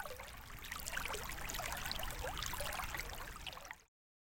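A babbling stream gurgles steadily for about four seconds, a continuous wash of bubbling, trickling water with no voices, then cuts off abruptly.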